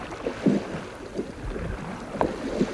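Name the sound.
rowboat moving through water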